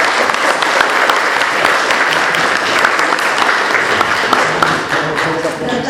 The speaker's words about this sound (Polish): Wielkie brawa i zapraszam.